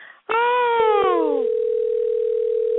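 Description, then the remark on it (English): A telephone ringing sound effect as a call is placed to a different number: a loud, buzzy electronic tone slides downward in pitch for about a second, then settles into a steady, unbroken hum that holds to the end, with no voices. “You keep ringing.”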